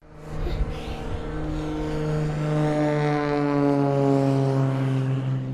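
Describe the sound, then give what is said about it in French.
A Pilatus PC-7 propeller aircraft engine drones steadily and loudly at an aviation event at Les Éplatures, a buzzing harmonic hum whose pitch creeps slightly upward as it holds for several seconds, with no voices over it. The plane flew for many years with the army and now belongs to a club based in Ticino. “Donc Pilatus PC-7 qui a volé pendant de nombreuses années à l'armée et depuis quelques années maintenant se trouve dans un club qui est basé au Tessin.”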